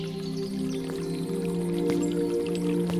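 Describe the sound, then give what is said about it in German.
Water splashes and trickles steadily from a fountain with water creatures of shiny stone, in the centre of a square by a castle garden, with occasional distinct drips over a constant low hum. No voices are heard. “Im Zentrum des Platzes befindet sich ein Brunnen, in dem sich Wasserwesen aus glänzendem Stein tummeln.”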